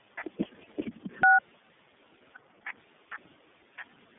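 A single sharp telephone keypad tone beeps from a participant's unmuted phone on a group call, surrounded by a scatter of soft clicks and taps, with a few more isolated clicks following at uneven intervals.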